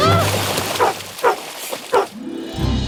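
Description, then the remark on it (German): A dog gives three sharp, spaced barks in the trailer for the film Lassie, eine abenteuerliche Reise, over a low, steady rumbling hum that fades midway and returns at the end. “Das Hundsviech ist morgen weg.”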